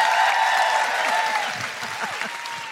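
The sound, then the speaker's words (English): A round of applause from a crowd: dense, steady clapping that holds strong, then gradually tapers off toward the end without fully stopping. “Big round of applause”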